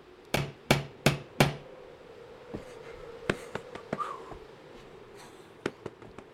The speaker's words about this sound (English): But first I think I'll knock very loudly, just to make quite sure.